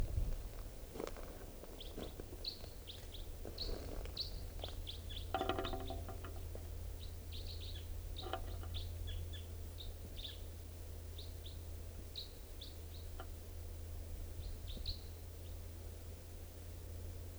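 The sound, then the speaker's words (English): Wild birds, some perched in a tall Douglas fir above a net area, chirp in quick, high-pitched bursts, scattered steadily across the whole stretch over a constant low hum, with a few rustling thumps in the first half and no talking. “Wild birds here.”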